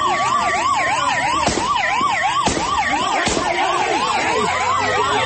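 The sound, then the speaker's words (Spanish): Police sirens wail and yelp continuously over loud street traffic noise, with a few sharp, sudden bangs cutting through partway, recorded during a daylight shootout and chase between police and heavily armed robbers trying to rob a Brinks armored cash truck in Valledupar, Cesar. “Lo que escucha Damián usted en este momento es el robo de película que quedó registrado en varios videos”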